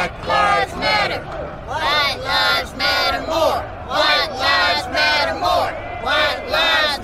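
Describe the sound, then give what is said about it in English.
A large crowd of protesters shouts in loud, rhythmic bursts over the acquittal of one of Freddie Gray's killers, voices rising and falling together in a repeated chant-like pattern, sustained throughout. “What the hell are you people shouting for?”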